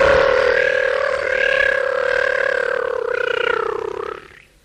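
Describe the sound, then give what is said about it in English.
A person's voice imitates a lion, letting out one long, loud, sustained roaring growl that holds steady for about four seconds before cutting off. “Ja tämä leijona lensi pohjoiseen ja etelään ja itään ja länteen.”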